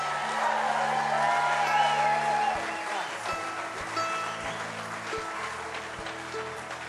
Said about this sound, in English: How about a round of applause for …, y'all?